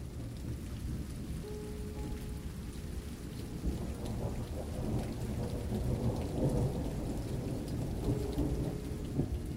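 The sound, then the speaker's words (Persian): Steady, dense rainfall pours down without pause, with a low rumble of thunder rolling beneath it and swelling midway through. No voices, just the continuous wash of a storm. “ملودی غمهایم را با صدای باران ترکیب می کنم.”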